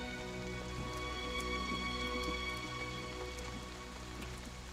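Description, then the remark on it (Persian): Steady rain falls and patters on a surface, a continuous wash of droplets with a low background hum and no voices. “بچهت اینجوری یخ میزنه، کاش بارون زودتر بند بیاد.”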